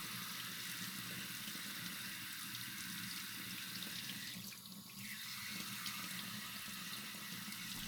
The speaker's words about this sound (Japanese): シャワーで今度は髪の毛を重点的に濡らします。頭皮を流した際と重複するのですが、熱くはございませんか。